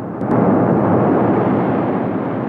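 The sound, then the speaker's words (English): A nuclear blast in a film tears through houses, reducing them to rubble: a massive, sustained roaring blast rumbling continuously at high volume, a dense wall of low, thundering noise with brief sharp cracks at the start. “In a clip from the film, the nuclear blast tears through houses, reducing them to rubble.”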